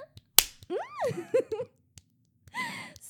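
hand slapping buttocks

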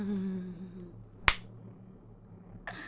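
hand slap on skin

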